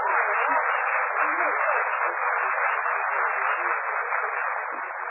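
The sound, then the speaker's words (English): A studio audience applauds Dennis's entrance, clapping steadily for five seconds, a dense, even wash of applause that holds its loudness throughout with no voices over it, its thin, band-limited tone like an old broadcast. “Gee, was all that applause for me?”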